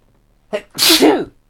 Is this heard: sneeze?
yes